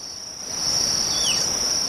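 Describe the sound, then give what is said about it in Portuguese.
A shrill tapir whistle slides downward in pitch, a brief descending call the tapir gives in response to the call of the carrapateiro, a tick-eating bird of prey, summoning it to come down and eat its ticks, rising over a constant high, buzzing insect drone that fills the whole clip. “Então o carrapateiro passa na área aqui das frutas, vocaliza, e se a anta estiver na área, ela vai fazer esse assovio alto para chamar o carrapateiro para ele descer nela e comer os carrapatos.”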